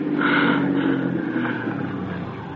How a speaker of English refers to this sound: Listen. Car's coming. It's all right, darling. Help's coming.